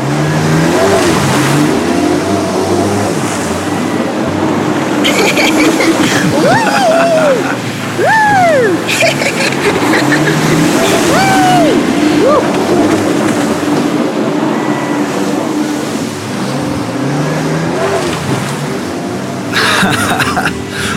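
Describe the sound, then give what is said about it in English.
A loud water scooter engine revs continuously as it runs on the water, its pitch rising and falling in repeated swoops over a steady rumbling drone, with a broad noisy wash running underneath throughout. “Now, let's continue scooting on this water.”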